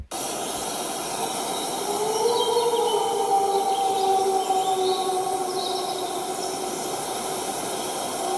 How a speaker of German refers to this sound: Wieder Rotkehlchen singend, Wolf aus mittlerer Distanz. Da ist einer drauf. Viele Rotkehlchen singen.